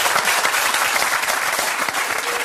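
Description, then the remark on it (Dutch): Steady, dense audience applause for TV presenter Jeroen Pauw as he is given an honorary Zilveren Nipkowschijf award, many overlapping hand claps forming a continuous crackling wash, sustained at an even, fairly loud level with no voices standing out. “Applaus voor Jeroen Pauw.”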